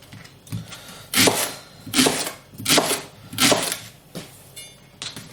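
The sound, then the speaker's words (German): A knife slices food into rings on a cutting board: about six evenly spaced, crisp chopping strokes in a steady rhythm, fairly loud, with no one talking. “Ja, also schön Ringe schneiden.”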